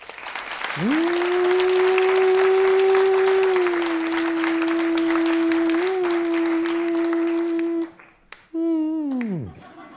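An audience breaks into dense, sustained applause lasting about seven seconds, with a long steady held tone over it, then a brief pause and a short falling whoop as it ends.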